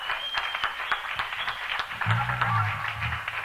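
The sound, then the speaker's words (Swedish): A crowd claps steadily in a dense wash of applause, with scattered sharper hand claps and a low murmur of voices rising partway through. “Applådera mer, det dokumenteras.”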